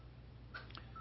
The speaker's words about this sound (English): somebody needs to answer the phone there.